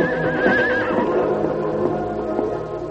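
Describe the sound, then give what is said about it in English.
The stallion Silver neighs wildly in a pen, a loud, quavering high whinny rising and wobbling in pitch over the first second, followed by rough snorting breaths and a few hoof clops, with no voices. “Silver's wild trumpeting startled the hide hunters.”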